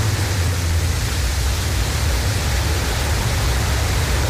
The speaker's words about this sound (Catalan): Bé, això més que un coet sembla un escape de gas, eh? Sembla una dutxa, eh? Que sí? Una cosa així poc sexy, poc radiofònica, ja ho dius tu.